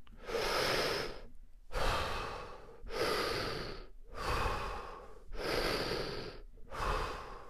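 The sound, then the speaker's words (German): Deep, forceful breaths through the mouth or nose during a two-minute intensive breathing exercise, in a steady rhythm, each rushing inhale or exhale lasting about a second with brief pauses between, repeated six times with no talking. “Intensives Atmen für 2 Minuten.”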